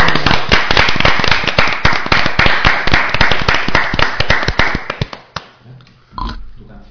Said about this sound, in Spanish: Damos un aplauso. Un aplauso, por favor. Un aplauso.